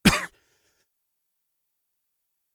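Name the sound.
cough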